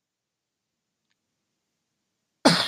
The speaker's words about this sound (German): Entschuldigung, musste gerade mal husten.